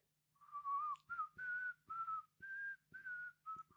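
A person whistles the German national anthem alone, a slow melody of clear sustained notes rising and falling, fairly loud, with faint low thumps underneath.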